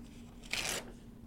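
paper being torn

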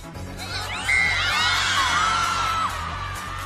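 crowd yelling and cheering

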